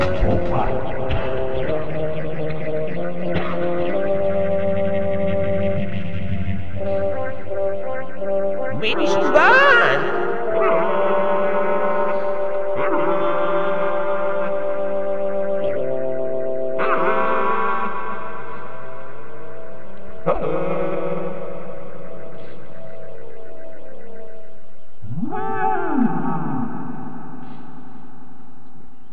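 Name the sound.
humpback whale song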